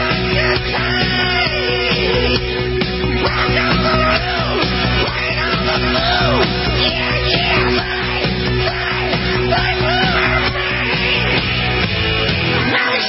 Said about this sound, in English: And then the Beast, President Trump's limo, takes a lap to get the track warmed up. Of course, the crowd was just going absolutely nuts. Massive crowd.